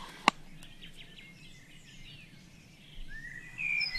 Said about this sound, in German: Ich habe von Weitem eine Kohlmeise gehört. Wir werden das dann nochmal notieren. Ja. Das ist also jetzt 4.30 Uhr. Wäre also die Kohlmeise. Die ein mehr ein Waldvogel ist, hier jetzt so nicht so typisch ist, ist ja ein Höhlenbrüter